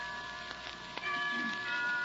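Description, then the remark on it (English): Soft, sustained bell chimes ring out with lingering metallic tones, accompanied by a few faint ticking clicks, heard at a low level with no voices. “Why don't we both just sit here and listen to the chimes for a while?”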